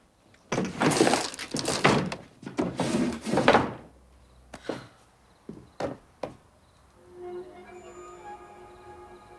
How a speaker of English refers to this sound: She searches the drawers and turns away, but then pauses and slowly turns back. She opens the top drawer and pulls out a string of rosary beads.